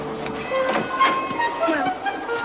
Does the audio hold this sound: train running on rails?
yes